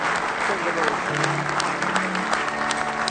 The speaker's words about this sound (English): Somebody say praise the Lord. Give him another good hand clap of praise if you love him.